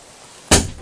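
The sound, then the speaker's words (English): A door, shut by a young boy, closes with a single sharp, loud thud after a moment of near silence, followed by a brief fading rattle. “I shut the door. Did you shut that door?”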